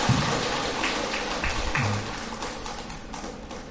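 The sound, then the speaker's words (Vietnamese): A crowd at a Buddhist gathering with monks claps steadily for a few seconds after gifts are presented to the elderly, a dense patter of hands that is fuller at first and then eases slightly, with no voices above it. “Một lần nữa xin để chúng dành cho một tràng pháo tay.”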